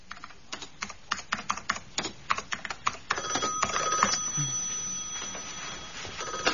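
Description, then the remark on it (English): Brisk keyboard typing clatters for a few seconds, then Peter Cousins' office telephone at Cousins and Timms, in a radio play, starts ringing with a steady, high electronic trill that continues to the end, with no one speaking. “Cousins and Timms, Peter Cousins' phone, can I help you?”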